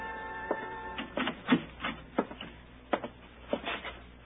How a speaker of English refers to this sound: And then something started picking away at my brain. A faint sound. I finally pegged it. A dripping faucet. It came from the bathroom.